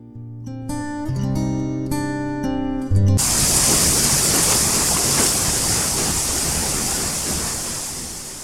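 A short melodic musical phrase gives way after about three seconds to a loud, steady roar of rushing river water that continues unbroken to the end.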